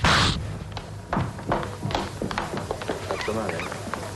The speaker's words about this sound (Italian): Ma ha dato uno schiaffo? Sì.